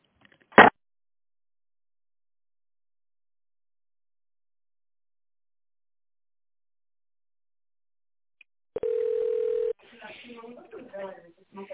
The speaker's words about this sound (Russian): Добрый день. Вы позвонили в компанию «Светон». Для выбора нужного вам абонента введите добавочный номер после звукового сигнала или дождитесь ответа секретаря.